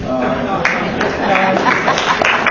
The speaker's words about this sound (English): But for those of you who didn't applaud, no doubt you didn't applaud among other reasons